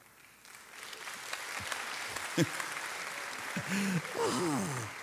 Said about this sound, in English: Again, if you're watching on TV, even though it's such an awkward clap, it's awesome.